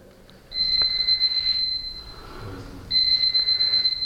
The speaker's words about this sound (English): Any thoughts about what that is? Alarm clock. Yes, an alarm clock. Yes, exactly. It's an alarm clock.